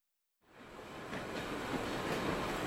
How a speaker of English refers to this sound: They take the train.